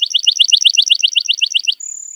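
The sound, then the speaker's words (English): A lark bunting sings a rapid series of bright, buzzy repeated notes in a steady trill, ending in a long sustained whistle, loud with no voices. “Lark bunting.”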